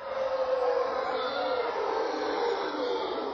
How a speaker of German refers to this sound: Welche tollen Tiergeräusche hast du denn da für uns eingefangen? Das waren jetzt gerade Brüllaffen. Und die hören sich wirklich, wirklich toll an.